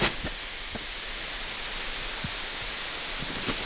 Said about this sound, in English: The whole oven hissed with steam once the water hit the hot rocks.